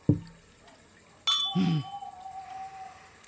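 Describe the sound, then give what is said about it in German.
Someone takes a quick sip: a soft low gulp, a sharp glassy clink that rings on in a thin steady tone, then another short swallow. No one speaks. “Dann schnell noch einen guten Schluck.”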